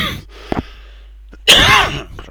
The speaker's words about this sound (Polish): proszę wybaczyć mi ten kaszel.